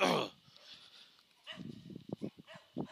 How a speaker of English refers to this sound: I got dogs to the north and dogs to the south.